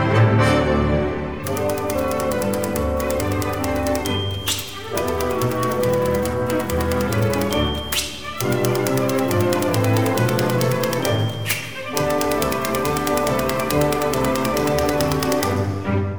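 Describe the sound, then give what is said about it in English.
Bright orchestral music plays with typewriter keys clacking rapidly in time with the rhythm, punctuated every few seconds by a bell ding and a sharp carriage-return zip. “this piece is called The Typewriter and is by Leroy Anderson”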